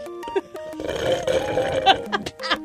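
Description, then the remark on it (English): A loud mouth-made fart noise: a wet, buzzy raspberry that sputters for about a second, framed by brief vocal sounds before and after. “It's been forever since I made fart sounds on here.”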